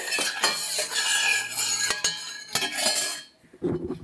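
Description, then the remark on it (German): A knife peels a lemon, cutting pieces of peel to float in tea as a garnish: continuous raspy scraping with a few sharp clicks, fairly loud, breaking off briefly toward the end before softer fumbling sounds resume. No one speaks. “wie du gerade deine Zitrone schälst, dass du dich irgendwie verletzt”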